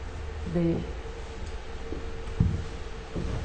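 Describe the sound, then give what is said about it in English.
A Märklin model train turning around on a rail carries huge 6-meter-long plastic boards that flip over with a few soft, irregular clacks above a low mechanical rumble, and a muffled voice briefly murmurs early on. “Plastic boards which are turning over the train.”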